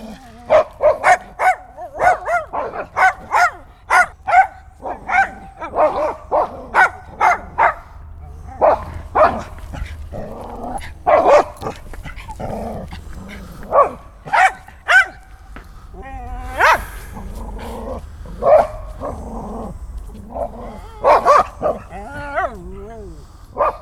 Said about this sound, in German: Halt die Klappe, jetzt kommt noch ein Hund.